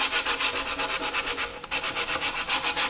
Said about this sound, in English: I have been working on them for quite some time. I started by using a chemical stripper, and then I sanded them, and then I'm sanding them in detail now.